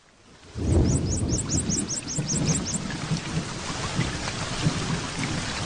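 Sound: rain and thunderstorm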